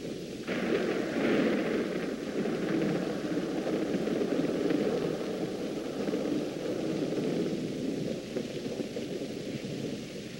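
A thunderstorm rages with a loud, continuous rumbling roar and a steady hiss like heavy rain, sustained for the whole stretch with no voices.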